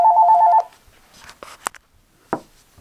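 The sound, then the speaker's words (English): A short electronic telephone tone, a steady two-pitch beep lasting about half a second, followed by scattered soft clicks and thumps, in a home during a study session. “So at times we get either a doorbell ringing or a phone ringing.”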